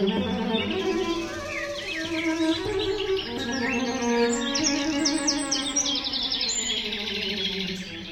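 Rich, continuous bird song with varied warbling phrases and bright high trills, full, with a steady tonal layer underneath and no talking.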